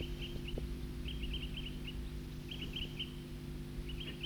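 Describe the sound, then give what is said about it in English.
A small flock of birds at Cataract Creek gives short, high tooting calls in loose clusters every second or so, soft, over a steady low background rumble. “Those birds are still tooping here at Cataract Creek.”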